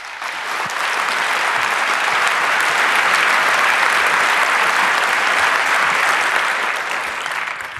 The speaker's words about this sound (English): And she's going to give a talk about information control and state repression. So please give her a warm welcome applause.